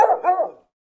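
A dog gives one short, fairly loud bark, with no voices, and then silence for the rest of the moment.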